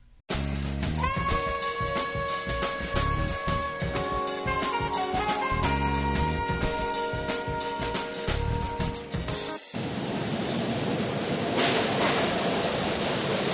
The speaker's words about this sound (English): we are now at the subway station.